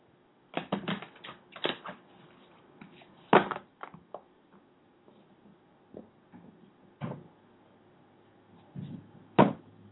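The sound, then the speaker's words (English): Crisp, papery riffling bursts of a deck of playing cards being shuffled, coming in uneven clusters with short pauses between shuffles and no talking. “Let's start shuffling the deck and say, hey, why don't you tell me when to stop shuffling, and then we'll go from there.”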